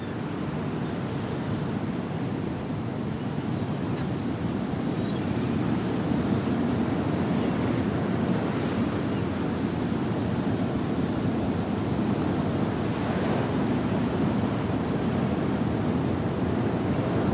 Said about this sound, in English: The sun shines down as they sit side by side on the beach sand with a view of the whitecaps rolling in.